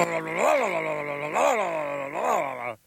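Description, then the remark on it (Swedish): A voice imitates a Ducati two-cylinder motorcycle engine with a deep, buzzy, continuous drone that rises and falls in pitch three times, like revving, before cutting off abruptly. “Hur låter en Ducati då, som är den äktaste tvåcylindriga?”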